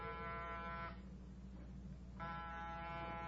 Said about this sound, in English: Get off the buzzer. Lomax can't hear it.